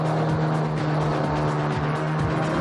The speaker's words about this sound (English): That powerful prop is throwing up lots of spray, but he's not getting much speed. It didn't quite plane, though. It's still ploughing rather than planing.